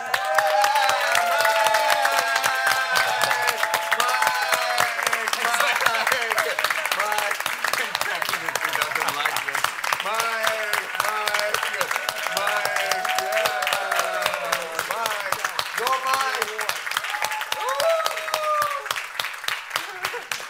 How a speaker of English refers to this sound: Just stand up and clap. Yeah!